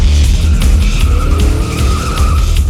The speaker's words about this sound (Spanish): Un auto hambriento de sangre dobla la esquina quemando llantas.